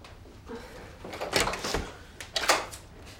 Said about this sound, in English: She heads for the door and peers through the spy hole before opening up to Langton.